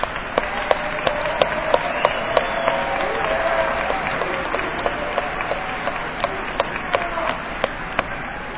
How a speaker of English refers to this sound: Before I get started, let me remember my manners and thank the program committee and really everybody who helped put on this convention. I know we clapped, but can we clap again?